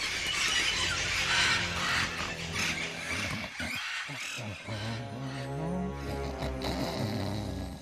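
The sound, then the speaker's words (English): A flock of parrots squawks and screeches loudly and continuously as they flap right over a wooden tiki head, their harsh overlapping calls filling the whole stretch with dense, shrill chatter, with a flutter of wings underneath. “Parrots flap right over the wooden tiki head.”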